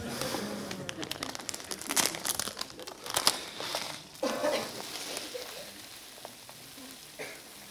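A 2-kilo bag of rice is handled, its plastic crinkling and rustling in irregular bursts while grains pour and patter out in a steady, gritty stream.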